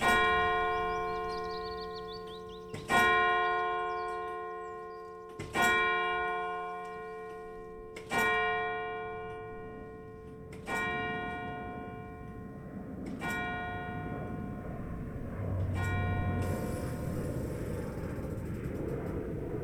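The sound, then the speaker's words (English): The clock bell of the parish church in Old Glossop strikes seven o'clock, seven loud, close strokes, each deep ringing stroke about two and a half seconds apart, its humming tone lingering between strikes. No voices. “And this is what it sounds like when you stand right next to the clock in Old Glossop's parish church, when it tells you it's 7 o'clock.”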